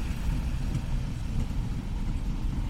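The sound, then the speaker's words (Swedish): A tram rolls past amid heavy street traffic while someone waits at a pedestrian crossing for the green light, a steady low rumble with a faint hiss above it that holds at an even level for a few seconds. No one speaks. “Då åker en spårvagn förbi.”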